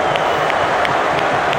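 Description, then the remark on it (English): A large stadium crowd applauds after Erik ten Hag thanks the supporters for their backing through the season, a dense, steady wash of many hands clapping at once with a hint of cheering mixed in, loud and unbroken throughout. “You hear the clap for that?”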